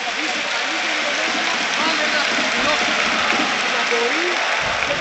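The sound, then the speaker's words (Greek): A crowd applauds at a Euroleague basketball game between Panathinaikos and Armani, a steady, dense wash of clapping that holds loud throughout, with a commentator's voice talking over it in Greek. “Χειροκροτεί ο κόσμος.”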